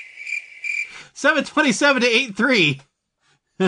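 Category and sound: insect, crickets chirping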